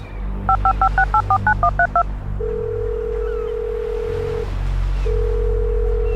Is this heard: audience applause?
no